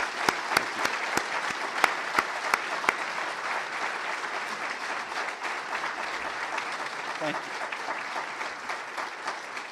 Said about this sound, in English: So what I'd like to ask is, all the accomplishments that I've just talked to, could we all give a round of applause to everybody that contributed to that?